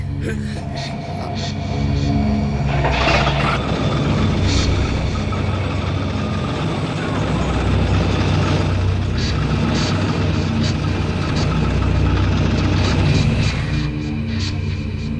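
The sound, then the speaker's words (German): A car engine runs loud, holding a steady, rough rumble for the whole stretch with a slight rise after the first couple of seconds and no clear cut-out, as the driver tries again to get the car moving after stalling it. “den Motor abgewürgt”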